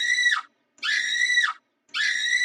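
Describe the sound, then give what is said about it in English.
Three loud, high-pitched screams in quick succession, each sustained for about half a second before dropping off sharply, with brief silences between them. “Because if you're not mindful, you will go and have yourself acting crazy, screaming at the top of your lungs.”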